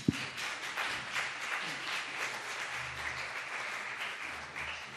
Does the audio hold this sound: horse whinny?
no